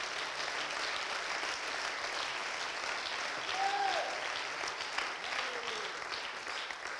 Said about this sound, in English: Somebody clap their hands all over this house.